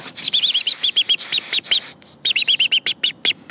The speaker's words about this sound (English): Michael is teaching Emily about the importance of the robin's distress call